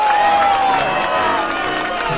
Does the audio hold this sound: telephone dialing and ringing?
no